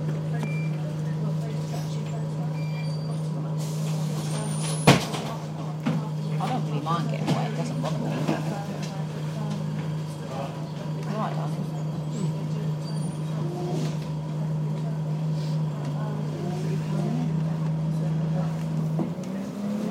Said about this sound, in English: Where we came in through, we're bent into Tocqueville Avenue. We're just going out, we're turning left. Oh, I know now. I've never been on the bus this far down.